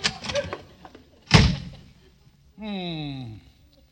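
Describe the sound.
A door slams shut once, a sharp, loud bang with a brief booming decay. Indistinct voices come just before it, and a short falling tonal sound follows afterward.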